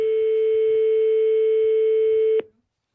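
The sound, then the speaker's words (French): A single steady, humming telephone ringback tone sounds loudly for a couple of seconds and then cuts off abruptly, leaving silence, as the RTL radio show calls a joinery firm live on air. No one speaks. “Dis donc, j'ai connu des sonneries longues, mais celle-ci avait envie d'y rester.”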